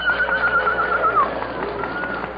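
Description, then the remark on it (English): A horse gives a single shrill, wavering whinny that trembles and fades over a couple of seconds during a bitter storm, with a low background rumble and no voices. “But still we may not ride the horse.”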